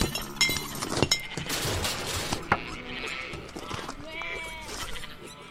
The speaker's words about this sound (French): Dans une ferme qui paraît pourtant si paisible, il ne se passe pas une journée sans que le cochon et le mouton ne se chamaillent.